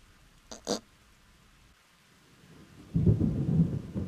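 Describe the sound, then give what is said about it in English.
A thunderstorm: two quick sharp crackles early on, then a deep rolling rumble of thunder swelling up over a faint steady background wash, with no voices. “When the rain began, Pooh was asleep. It rained and it rained and it rained, and he slept and he slept and he slept.”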